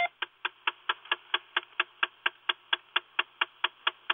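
A car's ignition warning chime, which sounds for 20 seconds whenever the ignition is turned on or off, repeats in a steady, rapid series of about eighteen identical bright pulses, roughly four per second, sharp and clicky with a buzzy tone and no talking.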